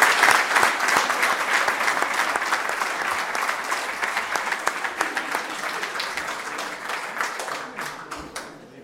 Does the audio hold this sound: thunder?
no